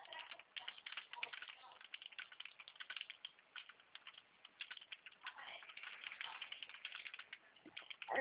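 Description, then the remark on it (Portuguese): Rapid, irregular clicking of keys on a computer keyboard continues for the whole stretch, fairly soft, with brief bursts and short pauses between runs of keystrokes, as someone types up a contract. “Eu estou digitando aqui o contrato já para poder mandar para vocês.”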